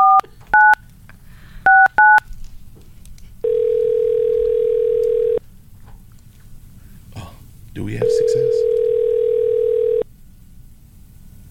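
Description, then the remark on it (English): A quick burst of touch-tone dialing beeps, then a phone rings twice on the line with long steady ringback tones and nobody picks up. A voice briefly speaks between the rings. “Nobody answers the phone anymore.”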